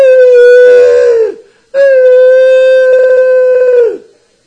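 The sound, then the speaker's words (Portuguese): A voice imitates a fake, horn-like wailing cry: two long, steady, loud tones separated by a short pause, each sliding downward in pitch as it fades out. “Assim, que nem uma buzina.”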